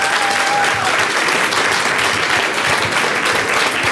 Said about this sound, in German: Ich bitte um donnernden Applaus.